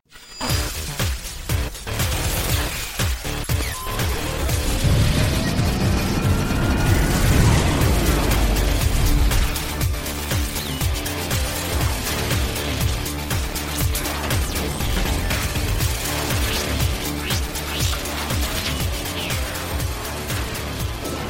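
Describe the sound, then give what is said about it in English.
A truck engine rumbles loudly and continuously outside a window, with deep low-end churning and scattered clanks and rattles. It is heaviest over the first ten seconds before settling into a steady drone. No one speaks. “Let's wait for this stupid truck to drive away that I'm blaring his engine outside my window.”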